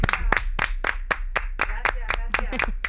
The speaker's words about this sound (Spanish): ¿Qué tal? No me aplaudáis más.